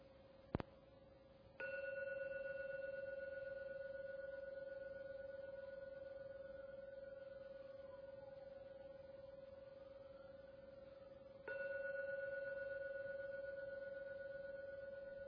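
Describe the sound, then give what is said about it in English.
A meditation gong struck three times: two strikes close together, then a long, steady ringing tone before a third strike renews the hum. No one speaks. “So I'm now going to ring the gong 3 times.”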